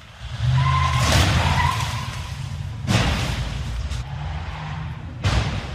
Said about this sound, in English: This time, the officer drove his SUV in broad daylight into parked car after parked car, slamming more than 50 on a street in Prague's Vinohrady district.